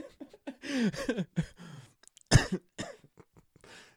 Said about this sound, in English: I'm coughing, but I'm about to die.